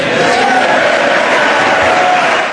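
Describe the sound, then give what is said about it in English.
Democrats in a large crowd boo President Bush during his speech on the rising cost of entitlements: a dense wall of low, drawn-out jeers that holds loudly and steadily for a couple of seconds without a break, with no single voice standing out. “all the Democrats were booing President Bush when he was trying to warn that we were headed for a real train wreck here.”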